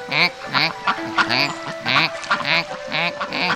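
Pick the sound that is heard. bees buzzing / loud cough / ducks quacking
ducks quacking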